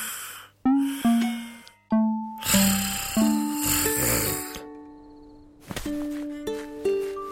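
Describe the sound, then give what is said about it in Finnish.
A mouse snoring in a cartoonish way: repeated breathy snorts, each carrying a whistling, steady tone. The sound is fairly loud, with a slow rhythm and no talking. “ei saa unta, koska hiiri kuorsaa.”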